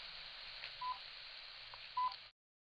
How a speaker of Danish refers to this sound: Det er en lille måler, som registrerer, hvis der kommer for høj energi, så begynder den at bippe. Så begynder den så at bippe lige pludselig. Uden nogen grund.